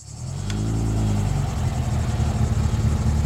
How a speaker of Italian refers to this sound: Il rombo di una macchina la sveglia di soprassalto. Avvolta da una polvere fitta, si è appena materializzata una lussuosa automobile